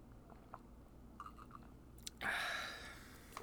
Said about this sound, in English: Wow, that was a big gulp for you. You're feeling it.